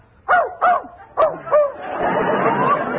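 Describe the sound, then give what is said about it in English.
A dog named Fletcher, shut in a closet in a hotel, barks four times in a quick, uneven series, the sharp yaps fairly loud, followed by a muffled, noisy wash of background sound. “Just as I thought, you do have a dog in here. He's in that closet.”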